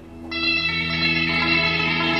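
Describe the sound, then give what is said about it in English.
A guitar played through compression, chorus, lots of reverb and lots of delay to mimic a hammered dulcimer with volume swells: a bright, shimmering struck chord enters over a low sustained drone and rings on steadily, with no talking. “Sounds like a hammer dulcimer to me.”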